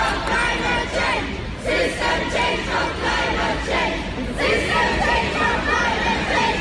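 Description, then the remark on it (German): About 200 climate demonstrators, mostly school students, chant and shout together in loud, rhythmic bursts while marching in pouring rain from the bus terminal through Städtli to the Peter-Kaiser-Platz, voices blending into a dense roar with a steady hiss of rain underneath. “Bei strömenden Regen haben sie ihr Anliegen weithin hörbar gemacht.”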